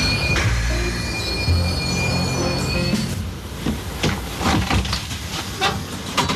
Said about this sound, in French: dans ce calme où le bruit blanc du train berce la centaine de passagers.